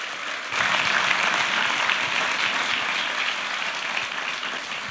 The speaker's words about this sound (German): Ja, vielen Dank für den Applaus, für die Vorstoßlorbeeren.